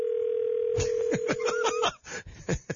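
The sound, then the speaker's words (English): A steady, unbroken telephone ringing tone hums for almost two seconds, then cuts off, while people laugh and chatter loudly over it as the hosts place a call to a guest on the air. “It's ringing.”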